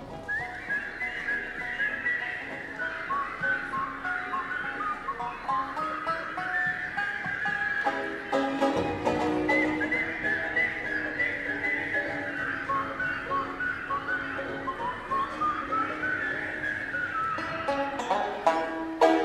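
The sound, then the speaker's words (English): A crowd at a live children's concert at Town Hall, recorded on 28 April 1962, whistles together along with a tune: a steady, fairly loud wavering melody carried by many whistlers at once, with accompanying music underneath and no talking. “Can you whistle?”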